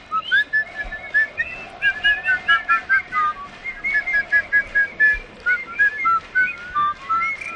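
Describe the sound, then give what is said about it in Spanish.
A person whistles a lively, warbling melody of rapid, repeated notes, continuing steadily for several seconds with no speech. “A ver, ¿quién sabe silbar?”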